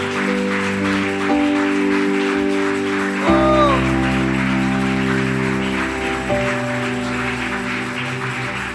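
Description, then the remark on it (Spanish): An audience claps steadily in a dense, continuous patter over sustained keyboard chords that shift a few times, with the clapping blending into a bright wash beneath the music. “Vamos un instante más de palmas.”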